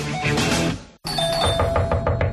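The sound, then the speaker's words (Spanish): A burst of dense, noisy sound cuts off abruptly. Then a bright electronic doorbell rings with a steady tone and a rapid series of repeated pulses, loud throughout. “Papá, ¿no oyes el timbre?”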